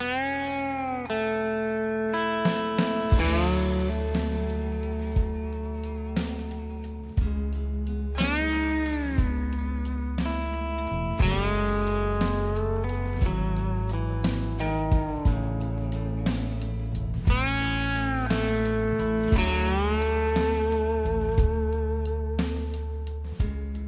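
Instrumental steel guitar music, its sustained notes swooping and gliding between pitches over a steady bass and backing chords, with no voices, playing at an even, moderate loudness throughout.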